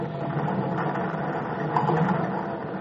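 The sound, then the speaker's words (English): A ship's screws churn in a dense, steady low rumble with a broad hiss on top, swelling slightly toward the end before holding level, as the screws stop. No voices. “Hey, that's the screws stopping.”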